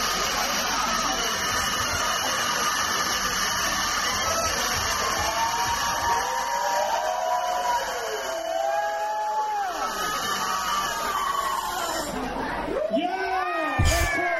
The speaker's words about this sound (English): She's going to do her famous heavy metal scream.